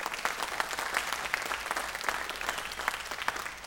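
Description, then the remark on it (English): A crowd applauds steadily for a student worship team at a church, with dense clapping at a moderate, even level throughout, many hands overlapping and no voices standing out. “Can we give them another round of applause?”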